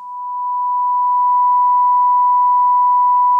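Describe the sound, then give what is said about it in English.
A steady pure tone at a single pitch holds unbroken for a few seconds, swelling in gently at the start and then staying constant and clear, with no voices or other sounds. “If we were to represent our Heavenly Father, His qualities, His attributes, His thoughts and His actions as a sound wave with a single frequency, we would hear a pure tone.”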